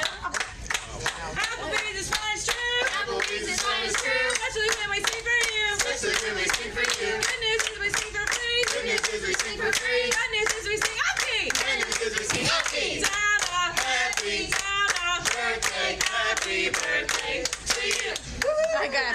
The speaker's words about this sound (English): I did find the Applebee's one, I think. Let's see if we can hear this. There's, like, again, a lot of clapping going on.